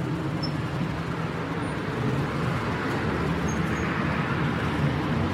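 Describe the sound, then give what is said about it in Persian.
A steady wash of street traffic fills the scene, low engine rumble and road noise continuous throughout, with a few faint high chirps above, as a man walks along the street toward his car; no one speaks. “مالک تو خیابونه داره میره سمت ماشینش.”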